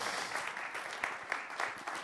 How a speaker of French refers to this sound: On l'applaudit.